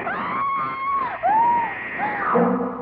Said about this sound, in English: I screamed and rolled over on the bed just as the knife slashed down.